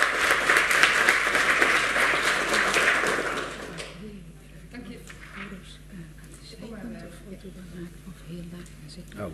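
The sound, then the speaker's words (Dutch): A burst of audience applause after a youth council member's swearing-in, dense and fairly loud for about four seconds, then fading out as murmuring voices and speech take over. “En applaus.”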